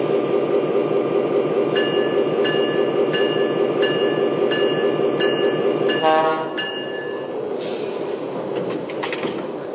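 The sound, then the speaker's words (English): Passenger train number two, the Texas Special, rumbles steadily on track one at the Dallas station stop, with a regularly repeating bell-like tone ringing over it, then a sharp hiss and a quieter, shifting mechanical sound as it settles. “San Antonio on track one, train number two, the Texas Special.”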